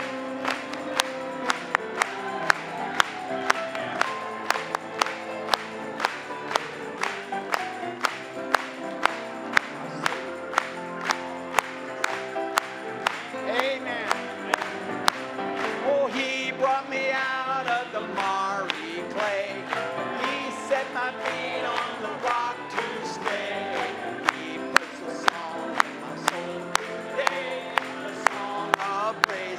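An audience claps along to a hymn of praise in a steady, even beat, with crisp, sharp claps repeating throughout over a backdrop of music and voices.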